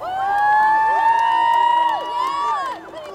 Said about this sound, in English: And then the cheering started on the dock, and it's just full of people on the dock. You could hear, it was just packed, and they were just cheering and yelling, and we were just sprinting to the finish line